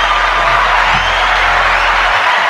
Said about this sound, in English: So give them motherfuckers a round of applause.